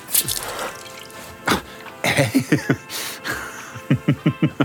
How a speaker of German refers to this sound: Du tauchst deine Hand in das Schaumwasser in der Spüle und spritzt mich voll.